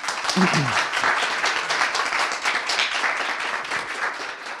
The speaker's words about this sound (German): Ich werde gleich noch ein paar einführende Worte dazu sagen, aber ich denke, ihr dürft das mit dem Applaus jetzt erstmal kurz üben.